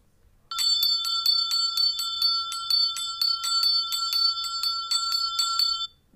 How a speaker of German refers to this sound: Richtig, das letzte war jetzt nur eine Glocke.